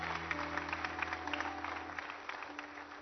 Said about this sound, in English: Let's give these folks a big hand clap as they're coming.